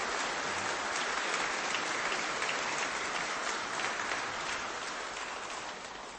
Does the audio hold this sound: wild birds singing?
no